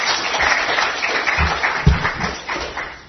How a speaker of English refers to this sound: Can we give them another round of applause this morning?